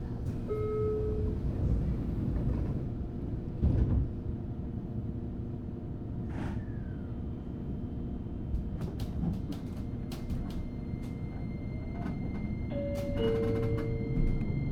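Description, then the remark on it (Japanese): A few short tones and clunks as the doors of a JR Kyushu train shut, then a steady low rumble of the train running, with occasional rattles and squeaks over the continuous drone. “JR 九州をご利用くださいまして、ありがとうございます。この列車は”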